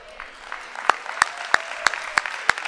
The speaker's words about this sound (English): Come on, clap a little better there. Clap just a little bit better.